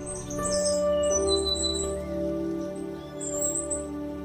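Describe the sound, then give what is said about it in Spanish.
An uirapuru (musician wren), a tiny bird of Brazilian forests, sings a series of clear, melodious whistled notes, rising and sliding in pitch, set against a steady low humming drone in the background. “El minúsculo pájaro tiene un canto tan melodioso que cuando canta, todos los otros pájaros de la selva silencian su canto para oír al cantor oficial de nuestros bosques.”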